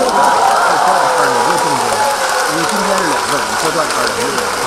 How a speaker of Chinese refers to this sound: 这时候来了一个黑猫城管，拔出手枪照着天空啪啪啪啪打出四个大字来， 写的是 掌声响起。